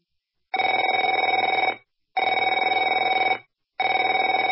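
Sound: telephone ringing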